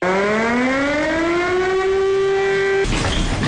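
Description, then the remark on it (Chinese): A loud military alert siren at an air-defense brigade of the Chinese Army's 71st Group Army, sounding as troops switch to top-level combat readiness duty; its wailing tone climbs steadily in pitch for about three seconds before cutting off abruptly into a rough, rumbling background noise. “随着警报声响起，陆军第71集团军某旅官兵立即转入一等战备值班，迅速奔赴战位，展开装备，做好抗击准备。”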